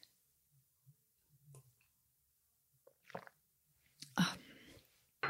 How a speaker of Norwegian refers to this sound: Bare ha en liten slurk kaffe først.